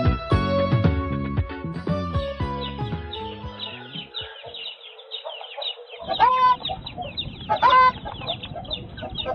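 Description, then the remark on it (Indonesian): Several chickens in a chicken coop cluck and squawk in a busy, overlapping chorus as they are being fed, with sharp rising calls breaking through a rustling, scratchy background. “Kok malah sibuk di kandang ayam sih?”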